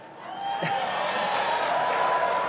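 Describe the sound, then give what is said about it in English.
An audience at a book signing bursts into cheering and applause, a dense, steady roar of clapping and voices that swells after a brief lull and holds at a loud, even level. “They're all cheering because they want to be in Scartial Forces now.”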